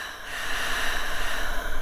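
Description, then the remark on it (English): A single deep, airy breath, a steady rushing hiss that swells slightly toward the end, with no talking. “And breathing.”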